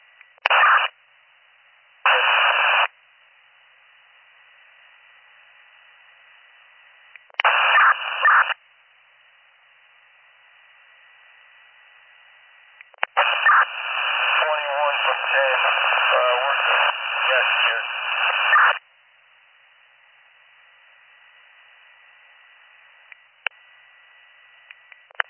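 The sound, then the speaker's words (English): Bursts of crackly radio transmission static on a county dispatch radio channel: a few short keyed-up hisses, then a long stretch of harsh, narrow-band noise with garbled, unreadable voice buried in it, separated by near silence. “I was just trying to get your status, so I wasn't sure if you guys were 72, and I didn't catch your last transmission before because it was static.”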